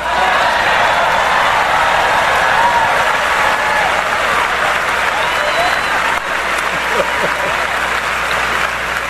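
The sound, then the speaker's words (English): Sustained, loud applause from a large crowd for the members of the Chicago City Council and the 13 newly elected alderpersons, dense and steady for the full stretch, with a brief dip partway through before the clapping continues just as strongly. “This is your day too, and you deserve recognition, and I'm going to turn around and clap for them.”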